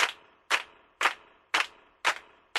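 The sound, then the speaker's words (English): Six sharp hand claps land in a steady, even rhythm, about two per second, each a crisp bright smack with a short decaying tail. No voices, just the claps on their own. “Okay, just the claps.”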